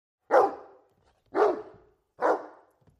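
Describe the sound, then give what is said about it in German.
Jerry, an old sled dog with a limping leg, barks three times at a steady, unhurried pace, each bark a loud, deep, rough woof that fades quickly, with short silent gaps between and no voices. “Zum Beispiel Jerry, den alten Schlittenhund, der ein Humpelbein hat.”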